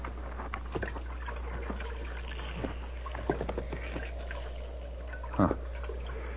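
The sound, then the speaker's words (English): Water sloshes and splashes faintly in a trough, with scattered small drips and laps over a steady low background hum and a brief louder splash near the end; no one speaks. “Not much water in the trough.”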